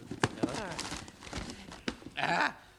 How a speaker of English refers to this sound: I see you have the parcel. Yes, yes, let us open it.